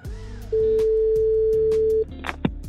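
A single steady ringback tone of an outgoing phone call placed to ask what Gökskulla is, one long beep lasting about a second and a half, sounding over soft background music with no talking.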